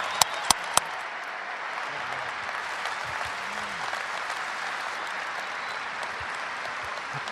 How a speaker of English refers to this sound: So I think all you guys owe this one a round of applause too.